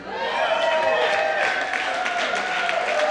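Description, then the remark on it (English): A large audience at a live concert applauds a band steadily for a few seconds, dense clapping mixed with shouts and cheers, loud and sustained without a break. “let's have a big round of applause for …”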